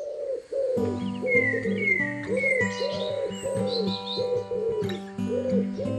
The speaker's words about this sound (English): As dawn breaks and morning light spreads from east to west, we'll be bringing you the breathtaking beauty of birdsong as it moves like a spectacular wave of sound across the face of the earth.